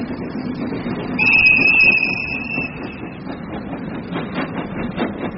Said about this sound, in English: On a steam train journey to Dundalk Station,